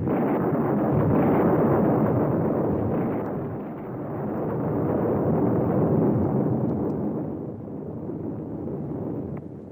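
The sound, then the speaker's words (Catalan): Heavy rolling thunder rumbles continuously and loudly, swelling twice in long deep waves with no clear separate cracks. There is no talking. “es va enfadar tant que va llançar uns quants llamps i trons.”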